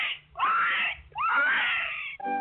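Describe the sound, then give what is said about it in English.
A pig squeals in two loud, shrill bursts, each sweeping upward in pitch with a harsh, raspy edge, followed by a brief steadier squeal at the end. “And the little pig, he squealed.”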